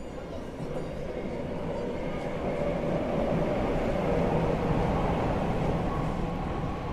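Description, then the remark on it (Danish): A train rolls along a platform at Grand Central station, its low, steady rumble and rattle filling the space and swelling slightly toward the middle before holding at a constant level. “Togene, der farer ind og ud af Grand Central's perroner, styres fra et kontrolrum, som ligger på anden sal.”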